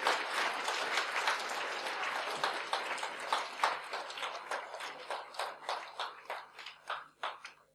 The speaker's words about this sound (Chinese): 再将掌声归给荣耀的君王，谢谢主耶稣，谢谢主，哈利路亚。